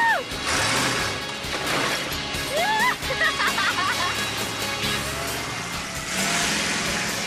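A monster truck engine roars and revs loudly, with heavy crunching and smashing of metal as cars get crushed in a parking lot, heard from the passenger seat, all in a continuous dense wash of noise.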